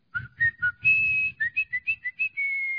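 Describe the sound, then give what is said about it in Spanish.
Someone whistles a short, lively tune, the whistle given to Chucho el Roto as in the Chucho el Roto films: a quick run of about a dozen clear notes rising and falling before ending on a long held tone, with no talking. “Le silbaban a Chucho.”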